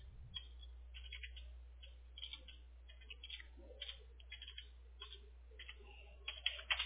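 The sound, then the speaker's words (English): Quiet, irregular clatter of someone typing an email on a computer keyboard, keystrokes coming in short uneven bursts over a steady low hum, with no one speaking. “They'll send me another call before I finish typing up this email for you.”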